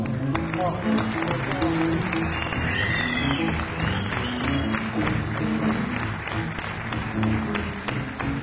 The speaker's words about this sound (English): One time, ladies and gentlemen, I want you to give a round of applause